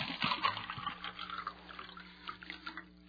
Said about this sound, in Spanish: Primero, llena 2 vasos con agua.